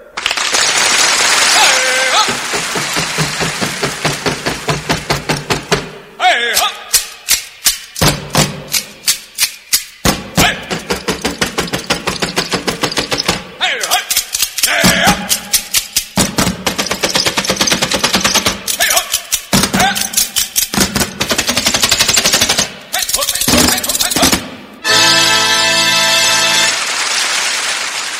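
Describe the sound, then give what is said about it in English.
An ultra-fast, machine-gun-like clatter of a precision drill team marching, a dense barrage of sharp stamps and clicks, loud, with bursts of applause-like noise at the start and end. “So here now is the world's fastest precision drill team.”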